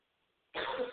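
coughing

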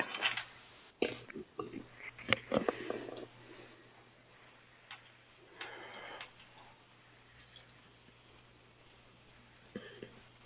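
shuffling playing cards

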